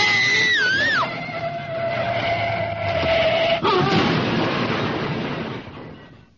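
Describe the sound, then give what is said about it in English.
A shrill, wavering screech slides in pitch, then a sudden loud crunching impact as a car whose brakes are not working crashes into a tree, followed by a rough, rumbling clatter that gradually fades away. “It was a tree we hit.”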